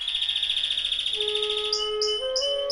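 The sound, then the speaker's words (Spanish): Bright, cheerful birdsong of canaries fluttering in the air over a sunny flower garden, with steady high trills and repeated chirping notes, clear and continuous, heard alone with no voices. “Siente la calidez del sol acariciando tu piel y escucha el alegre canto de los pájaros que revolotean en el aire.”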